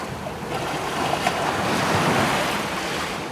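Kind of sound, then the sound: nature, gentle ocean waves breaking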